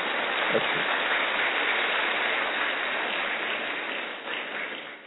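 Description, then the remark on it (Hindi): A crowd applauds steadily, a dense wash of many hands clapping together at a fairly even level for several seconds before easing off slightly at the end. “घड़ी में देखोगे तो ठीक 4:45 बज गए, इस पर ताली बजाओ ना।”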